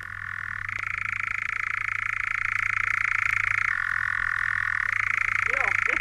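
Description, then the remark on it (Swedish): A European nightjar, a brown bird the size of a cuckoo, churrs steadily without a break, a dry, rapid mechanical trill that shifts between a lower and a slightly higher pitch a few times. A faint low hum runs underneath. “Jo, alltså var det nattkärra.”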